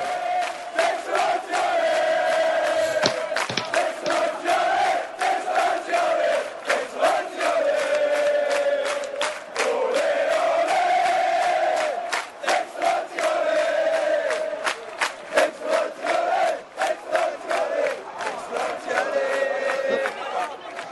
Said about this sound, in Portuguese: apesar de ser um jogo fora, foi tanta gente que acabou virando um jogo dentro de casa. Mais de 7 mil torcedores do Hannover foram até Sevilha e só se escutava a torcida do Hannover nesse jogo. A invasão de Hannover em terras sevilhanas, vamos ouvir.